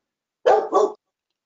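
dog barking

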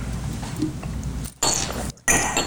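glasses clinking

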